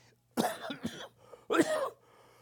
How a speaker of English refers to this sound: Sorry about my coughing. I'm still getting over that cold from a few weeks ago or whatever that was. COVID or whatever.